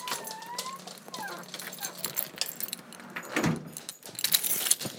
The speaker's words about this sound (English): Let's take my keys out first.